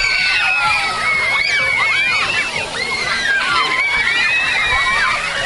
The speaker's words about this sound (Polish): Widzę, że tutaj największą frajdą dla dzieciaków jest fontanna Smoka Milusia. Ja myślę, że temperatura tak rośnie, że woda chyba wszystkim się kojarzy dobrze i każdy jej pragnie.